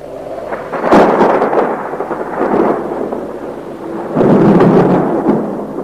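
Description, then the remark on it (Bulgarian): Heavy thunder rolls and rumbles through a storm as the sky turns dark as night, making the ground tremble, with a sharp crack near the start and a second loud surge of deep, sustained rumbling later on. No voices are heard. “Грамотевици карат земята под нас да трепери.”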